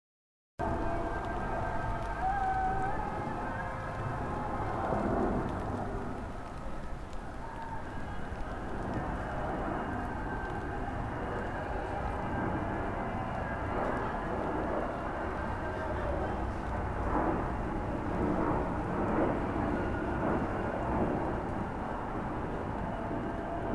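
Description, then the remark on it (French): A steady, dense rumble fills the whole stretch, like aircraft roaring overhead with rain hissing beneath, loud and continuous with faint surging swells and no clear pauses; recorded at the end of June, in early summer, as rain falls and planes roar. “Le ciel pleure, les avions vrombissent avant que des F-16 ne passent plus tard au niveau du sol.”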